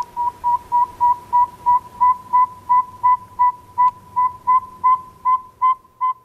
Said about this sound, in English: Lots of those singing right now. You go outside and listen for this evenings and early mornings. They're doing a lot of singing, the saw-wet owls